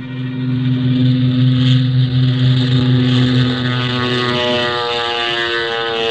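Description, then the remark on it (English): A small propeller plane carrying Colonel Sawaka roars loudly and steadily, its droning buzz holding strong and shifting slightly in pitch as it powers up for takeoff from a jungle airstrip, with no voices. “We loaded Colonel Sawaka into the small plane.”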